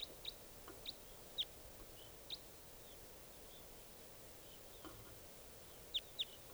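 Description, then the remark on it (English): Short, high-pitched wild bird calls ring out in scattered bursts, a few early on and a quick pair near the end, over a steady low hiss with no talking. “Troops of 3 or 7 there, wild bird calls.”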